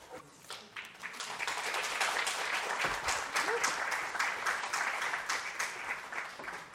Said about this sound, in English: Thank you again to these three ladies for their wonderful readings and discussions. If we could have another round of applause.